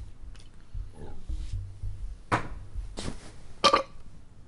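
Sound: burp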